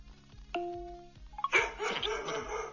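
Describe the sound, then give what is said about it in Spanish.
A chime rings out over a steady low beat, then a busy burst of dog barks and yips tumbles in over festive-sounding music, fairly loud; a Christmas-themed dog bark sound played by an Alexa smart speaker on request. “Pídeme un ladrido Navidad.”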